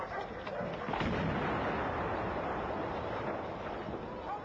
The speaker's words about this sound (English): Stun grenade explosions heralded balaclavaed figures in black abseiling down the walls. The elegant facade belched smoke as a well-planned operation was executed.